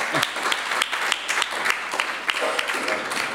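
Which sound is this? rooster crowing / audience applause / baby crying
audience applause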